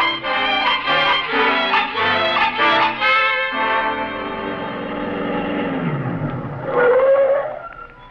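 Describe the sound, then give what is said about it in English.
A car pulls away: a stylized engine sound whose pitch slides downward and then revs upward sharply near the end, following a busy stretch of layered tones. No voices. “I'll get the car out right away, sir.”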